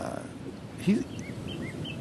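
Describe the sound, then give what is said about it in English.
A male northern cardinal, heard from a wooden bridge over marshland, sings a faint series of short, repeated slurred whistles over soft outdoor background noise, with a brief low murmur partway through. “Well, there's a northern cardinal, male northern cardinal, singing right next to us here.”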